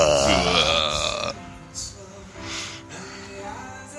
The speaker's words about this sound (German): Ich müsste mal rülpsen, darf man das live?